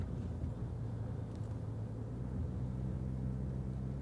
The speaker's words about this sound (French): La voiture plonge dans l'obscurité de ce parking souterrain qui n'a pas l'air très engageant. Il y a beaucoup de places vides.